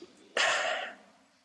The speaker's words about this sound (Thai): รู้สึกตัวหายใจแรง